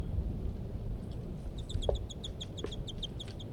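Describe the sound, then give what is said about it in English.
A male bird calls from nearby treetops in a quick, steady series of high, sharp chirping notes that starts after a second and keeps going, fairly faint over a low, rumbling background noise. “And these are those two birds, and while the male calls from the nearby treetops.”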